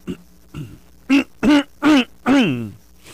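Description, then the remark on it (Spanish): A voice imitates throat clearing: two soft grunts, then four loud, voiced bursts in quick succession, the last one drawn out and falling in pitch. No words are spoken. “Aun cuando al pedir perdón no le dé la carraspera en la garganta.”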